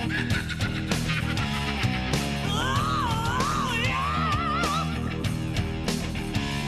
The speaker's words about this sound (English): I think they lifted that guitar riff. I think they lifted that guitar riff and that scream from everybody else.